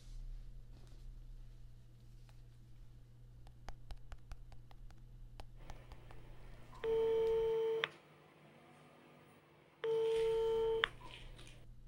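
Two long electronic ringback tones sound on a phone line, each lasting about a second with a steady multi-pitched buzz, separated by a pause, after a stretch of quiet clicks and background hum, as a call is placed to a neighbour to invite her over for mahjong.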